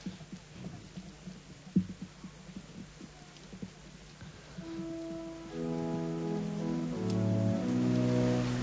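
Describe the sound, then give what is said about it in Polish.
Steady outdoor rain hisses with scattered irregular drops and taps. About halfway through, sustained musical tones swell in and build over the rain. “Niech one będą też wyrazem, ten gest niech będzie wyrazem naszej radości, jak tam na weselu w Kanie, mimo iż pada deszcz.”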